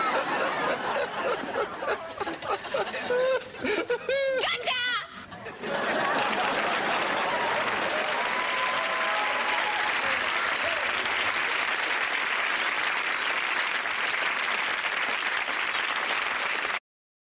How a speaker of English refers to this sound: I had an applause record for my imaginary TV show.